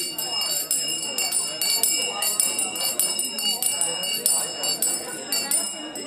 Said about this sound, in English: Every few minutes, a bell would ring, signaling that it was time to switch.